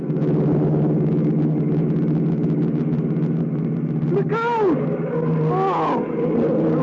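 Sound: car engine roaring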